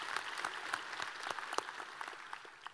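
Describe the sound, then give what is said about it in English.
A church audience applauds to honour a Korean War veteran and Purple Heart recipient, with a steady wash of many hands clapping, dense and even, holding at a fairly soft level for about three seconds with no clear voices above it. “Can we just give a little just cheer for that?”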